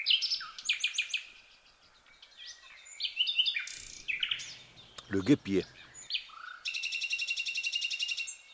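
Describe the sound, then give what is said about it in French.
Bee-eater birds call in a busy, overlapping chorus of bright chirps and short rolling trills, ending in a steady rapid trill; a brief lower sound breaks in near the middle. “Le guépier, c'est de toutes les couleurs, vous savez, c'est joli un guépier, on dirait que c'est l'arc-en-ciel.”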